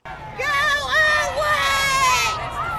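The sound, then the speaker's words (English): A crowd of voices at a protest between Black Lives Matter and Back the Blue groups chants, yells and shouts back and forth over one another, loud and strained, with high-pitched cries rising above a steady wall of noise for a few seconds. “The protest got heated quickly, with both sides chanting and yelling back and forth at one another.”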